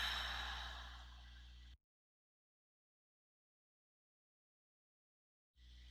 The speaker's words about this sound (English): Let's begin with a few deep, full breaths, intentionally breathing. Exhaling first to complete emptiness.